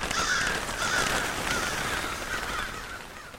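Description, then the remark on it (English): Harsh, raspy crow caws repeat in a loose series over steady background noise, moderately loud, with no voices present. “So corvids specifically are very smart birds.”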